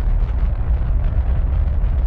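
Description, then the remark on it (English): A deep, continuous roar of a Saturn rocket at liftoff from Pad 39 at 11:22 a.m. Eastern Standard Time, flames in the trench below, heavy low rumble with crackling texture, loud and steady for about two seconds with no voices. “When the clock read 22 minutes past the hour, flames licked the trench below Pad 39, and the Saturn leapt skyward.”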